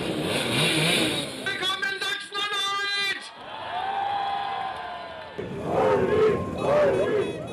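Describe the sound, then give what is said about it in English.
Simson Schwalbe moped engines rev and buzz, their rising whine standing out over a noisy, cheering crowd, with more engines droning as an AfD election motorcade, led by candidate Ulrich Siegmund on a blue moped, moves past on a Sunday in Quedlinburg, Saxony-Anhalt. “Together with many of the 5,000 attendees, he's sitting on an iconic Simson Schwalbe, one of East Germany's most recognisable brands.”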